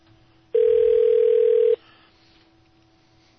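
A single telephone ringback tone on a call transferred to Assemblymember John Laird's office message phone sounds over the line, a loud steady electronic burst lasting just over a second before dropping back to faint line hiss.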